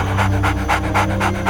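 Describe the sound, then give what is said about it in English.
A fat black Labrador retriever pants rapidly and steadily with its tongue lolling, quick rhythmic breaths about every quarter second, loud and alone with no talking. “A fat black Labrador retriever sat before him, head cocked to one side, tongue lolling happily.”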